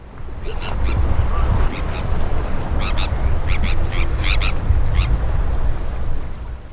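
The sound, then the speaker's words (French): Harsh, raspy tern cries ring out in quick repeated bursts, several birds calling over one another, loud above a steady low rush of wind or surf. “les sternes qui sont très bruyantes. Elles communiquent entre elles, non seulement sur la colonie, mais également sur les zones de pêche”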